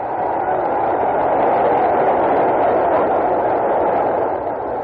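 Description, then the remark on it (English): A boxing crowd at a Walcott fight roars at the bell ending a round, a steady, dense wall of noise, loud and unbroken for several seconds with no single voice standing out. “Well, listen to the crowd for a second.”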